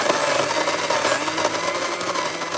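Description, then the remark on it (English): A vacuum cleaner runs steadily, a loud continuous motor roar with a high whine and hiss over a low hum, holding the same level throughout with no voices. “Until recently, the volume of an average vacuum cleaner was about 75 decibels, which is about as loud as a coffee grinder.”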